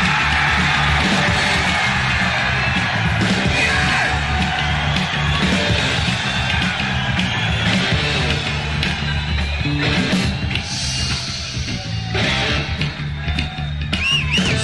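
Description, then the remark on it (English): A theatre audience of about 4,000 screams and yells in a loud, sustained roar, with whoops and whistles rising out of the constant crowd noise for the whole stretch. “Let's take this roof off. 4,000 screaming in the house.”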